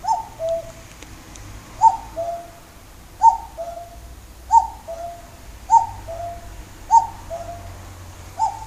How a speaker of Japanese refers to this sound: あれが泣いている。生まれて初めてですね、私あのカッコウが泣いているのを肉眼で見ました。40年生きてきて初めてです。こんなところにカッコウがいるなんて。